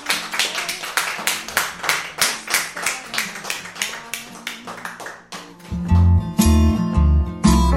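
A crowd applauds a departing singer, clapping in a steady, quick rhythm for about five seconds, loud and evenly paced, then her song starts with a low bass line and sustained tones.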